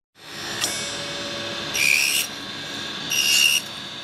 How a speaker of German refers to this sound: Hier entsteht Weihnachtsschmuck. Scheibe um Scheibe, millimeterdünn schneidet das kreisrunde Sägeblatt kaum fingerkuppengroßes Stückchen von der vorgeformten Holzstange ab. Einzelteile für Figurenanhänger oder für ganze Krippenszenen.